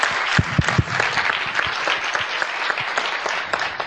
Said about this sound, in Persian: فکر کنم شایسته تشویق خیلی بیشتر باشه، خیلی چند ساله کار میکنه.